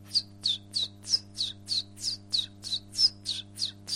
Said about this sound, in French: Et en ce moment, il y a le Pouillot Véloce qui chante.